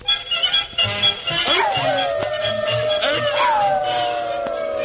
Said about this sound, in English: Well, look at those four watchdogs over there. Wonder what they're howling about.